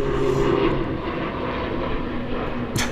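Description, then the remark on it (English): A steady, droning roar of an airplane passing overhead outdoors, broad and continuous with a low engine hum, fairly loud throughout with no one speaking. “Also, if you can hear that airplane, I'm not even joking. We're outside.”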